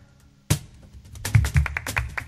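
A flamenco cajón played: a sharp opening slap, then a quick flamenco rhythm of deep bass thumps and crisp, snapping edge hits, with no voices.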